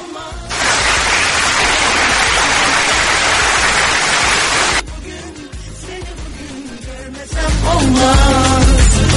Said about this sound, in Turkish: Yürekten kutluyorum. Alkışlar da sana gelsin.